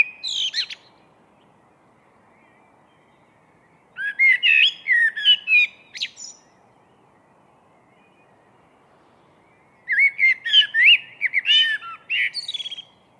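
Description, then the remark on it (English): A blackbird sings out of the chilled pre-dawn darkness in clear, separate phrases with long quiet pauses between them, rich fluting notes rising into twittery flourishes, set against a very still, hushed background. “This blackbird was singing out of the chilled pre-dawn darkness.”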